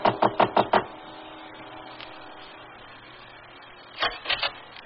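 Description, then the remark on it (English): A quick burst of five firm knocks on the wooden front door of a house, then a pause with a faint bump, followed by three or four more knocks in another short, even burst. “When he arrived, I watched him go into his house, and then after a minute, I calmly walked to the front door.”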